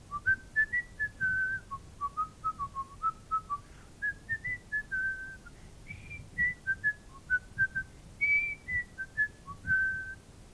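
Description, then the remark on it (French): Someone whistles a lively, wandering tune while walking, a steady stream of short bright notes rising and falling for about ten seconds, clear, with no talking and only a faint low rumble beneath. “Comme d'habitude, il siffle en marchant.”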